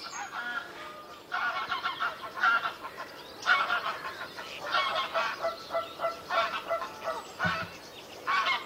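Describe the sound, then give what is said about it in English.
Canada geese honk repeatedly in a loose, overlapping chorus in a wood, several birds calling in bursts over a quiet outdoor background with no talking. “Well, it sounds like we've got Canada geese in our wood.”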